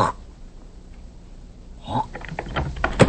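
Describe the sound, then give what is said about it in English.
Simon opens a door partway through, with a soft rush and a few clicks and light knocks from the latch and handle following. The start is quiet. “Simon opens the door.”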